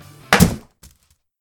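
A single heavy, dull thunk as something solid knocks hard against a wooden table, loud and close, followed by a faint brief rattle and then silence.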